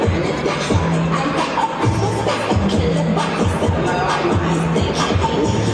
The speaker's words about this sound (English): When the clock ticks, crowds are gathering, watching the annual ball drop fireworks countdown. New York Times Square to usher in 2024.